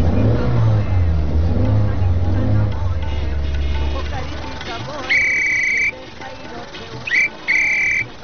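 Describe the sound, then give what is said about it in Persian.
A car engine, started up in a corner, runs with a loud, steady low rumble for several seconds, then dies away, followed by a few short, high-pitched electronic beeping tones. “اینه در این گوشه هم استارت کردیم جانم.”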